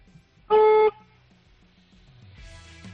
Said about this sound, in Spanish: Así que vamos a escuchar cómo suena el claxon. Mira, dale un toque de 2 segunditos, a ver cómo suena.